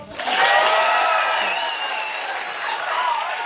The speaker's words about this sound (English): Okay, that was maybe because I asked them to applaud for a sound check with our engineer, Christian.